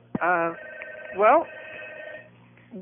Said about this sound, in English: Excuse me, there's a phone ringing. Oh, you can just let it go.